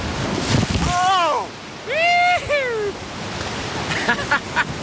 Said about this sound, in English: Well, here we go. The boat drops into the newly returned whitewater, its nose pointed right into massive cresting waves.